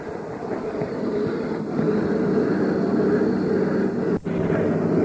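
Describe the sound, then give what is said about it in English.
A steady, loud rumbling roar of the last diesel train out of San Antonio passing on the main track and clearing the siding, a continuous heavy engine drone with rattling undertones that holds throughout with no voices. “now the diesel is leaving, and it'll be the last diesel train out. It's going on past and clearing the siding now”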